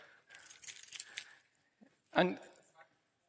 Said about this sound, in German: Schlüssel. Ich habe diesen hier, die sind alle meine Jesushausschlüssel, nur Jesushaus, ja.